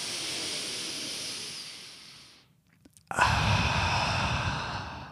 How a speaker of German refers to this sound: Da musst du halt ganz tief durch die Nase einatmen, ungefähr so. Machen wir zusammen jetzt. Durch den Mund wieder ausatmen langsam. Genau, und das machst du ein paar Mal, dann geht die Übelkeit weg.